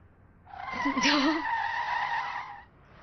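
A vehicle brakes hard, its tires letting out a loud, sustained skidding screech for about two seconds before cutting off abruptly. No one speaks.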